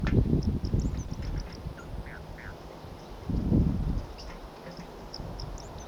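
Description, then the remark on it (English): Wild birds from a flock call in scattered bursts, with two louder low, rough stretches and faint high chirps sprinkled throughout over a steady rushing background. No one speaks. “Start recording the wild birds.”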